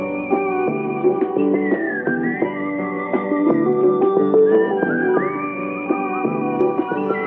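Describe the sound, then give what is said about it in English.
A person whistles a continuous, sliding melody over steady instrumental backing, clear and fairly loud throughout with no talking. “All right, time for your morning whistling exercises. Let's go now, pucker up.”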